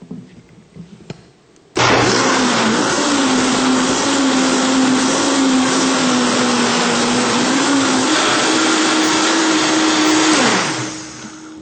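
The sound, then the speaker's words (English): A blender mixing a chia seed and water mixture switches on abruptly, started on low then put on high until well mixed, with a plunger pushing it into the blades; a loud, steady whirring roar for about nine seconds whose motor pitch steps up shortly after starting, then winds down and stops. “Again, we'll start on low, and then we're going to go ahead and put on high until it's well mixed.”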